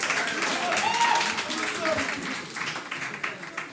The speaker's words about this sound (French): Je vous en prie, applaudissez.